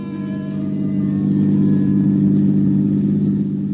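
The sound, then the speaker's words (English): A car engine runs loud, its low droning hum swelling slightly as it revs up and the car pulls away, continuous for a few seconds with no voices. “I shut the door, headed once more for my car. The lady of the house was waiting. We took off.”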